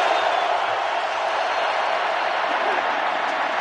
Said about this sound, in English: We trust this will put an end to the ridiculous and unfounded accusations that the Colts artificially enhanced crowd noise at the RCA Dome. And here it is again.